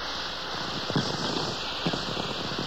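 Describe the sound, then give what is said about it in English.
Radio atmospherics from lightning: a steady crackling, hissing static with two sharper clicks standing out, each a brief tweak ping. No voices, just the constant rain-like crackle. “If a lightning flash is 1,500 miles away, the ground wave propagation from it is rather weak.”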